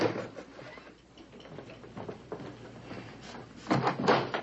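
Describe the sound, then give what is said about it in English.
A door is handled and opened for a visitor: soft rattling and scraping clunks build to a louder clatter near the end, with no voices. “There's somebody at the door.”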